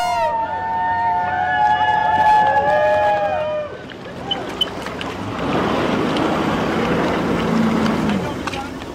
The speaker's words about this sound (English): The 3 cast members and 2 on the camera crew pulled up to the dock on 4 Sea-Doo jet skis after 1,400 miles in 5 days from Seattle to Petersburg.